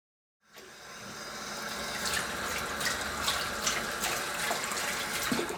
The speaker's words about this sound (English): is washing the dishes